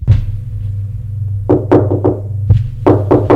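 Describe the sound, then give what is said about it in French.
Several sharp knocks on a door, some single and some in quick pairs, sounding over a low steady hum with no voices. “On a frappé à la porte.”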